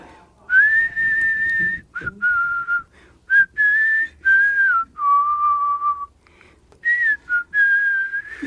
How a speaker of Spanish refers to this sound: A ver, este silbido.